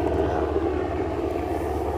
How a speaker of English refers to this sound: It's such a loud plane.